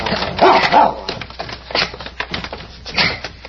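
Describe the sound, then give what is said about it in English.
A dog named Prince gives a few short, excited barks and yips mixed with whining whimpers, the sounds coming in uneven bursts with brief pauses between them. “Down, boy.”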